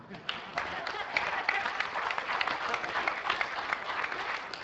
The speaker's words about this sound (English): Now, give a clap for that.